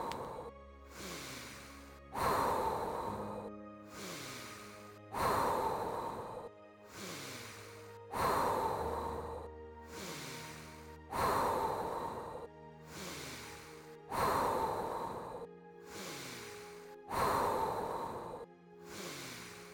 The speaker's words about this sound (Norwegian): Ti til. Store, dype innpust.